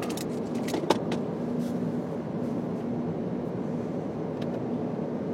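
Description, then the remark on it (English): Steady low rumble of a car on the road, heard from inside the cabin, with a few faint clicks and rattles over the constant engine and tire drone. No one speaks. “So, that's going to be not impossible to find, but tricky to find from my phone while I'm driving a car.”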